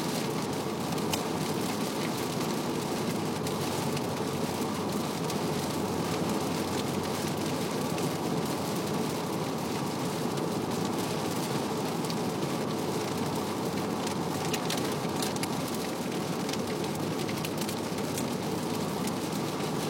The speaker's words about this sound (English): Raining like a motherfucker. I'm guessing that they renewed the flash flood warning that was supposed to have expired last night, but this is the next storm from that one, which is apparently way harder